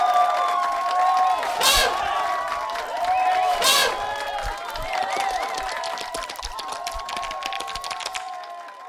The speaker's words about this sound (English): Well done, primates. Put your applauding appendages together and show your appreciation to Titus the Savage and his lovely mate.